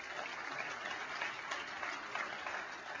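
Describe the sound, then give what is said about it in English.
A church audience gives the Lord a clap offering, clapping steadily for three seconds, a dense wash of many overlapping hand claps with no voices standing out, holding an even, moderate loudness throughout. “Come on, everybody say, give the Lord a good clap offering.”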